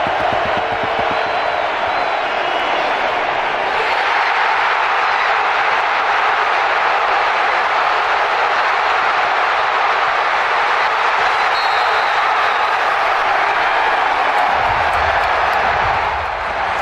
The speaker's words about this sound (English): So this is just the crowd noise, Cooper DeJean, and obviously what stands out here is how loud it is, even though it's supposed to be a neutral site game. It wasn't. It was mostly Eagles fans. Listen to Cooper's return with just the crowd noise.